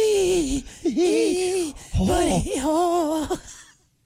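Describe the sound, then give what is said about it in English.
A voice imitates a big fish breathing hard as it swims towards a worm: a run of loud, voiced huffs and groaning pants, exaggerated, rising and falling in pitch over a few seconds with no actual words. “Oh, no, it's Fatty McGee. Breathing hard. As he's swimming towards the worm.”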